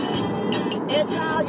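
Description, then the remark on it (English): Steady, continuous rumble and hiss of a car driving at triple-digit speed, road and engine noise inside the cabin, holding an even loudness throughout. “It's kind of the scary thing about this car, is that at high speeds, it feels really, really smooth.”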